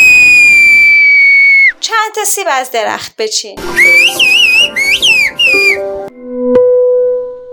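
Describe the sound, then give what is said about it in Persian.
A loud, piercing finger whistle, made with the middle finger to carry over a longer distance, holds a steady high note, then a spoken phrase is answered by warbling whistled speech with rising and falling contours, ending in a brief low tone. “پس اگه میخواین سوتتون مسافت طولانی تری رو حفظ کنه، باید با انگشت وسط بسوتین، مثل این سوت”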